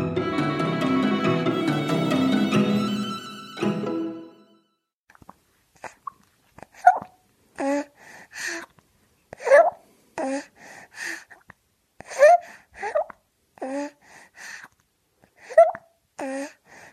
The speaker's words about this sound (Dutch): Ja, we horen hier het tevreden gesmak van een baby die aan het voeden is bij zijn of haar moeder.